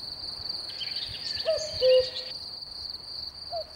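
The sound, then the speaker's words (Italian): A cuckoo calls on a starry night, its soft two-note hoot rising from a steady chorus of chirping crickets, then sounding once more, a little fainter, near the end. “Nella notte stellata, per l'aria fresca, il salinaro ascolta ritmico pianto del cucù.”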